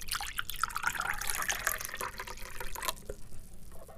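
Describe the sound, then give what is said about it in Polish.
Coffee being poured: a steady, splashy trickle of liquid with bright gurgling for about three seconds, then it stops and only a faint hiss remains. No one speaks. “Już nalewam.”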